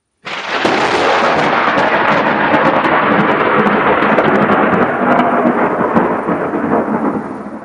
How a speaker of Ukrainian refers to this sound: Над містом раптом важко прогуркотів грім.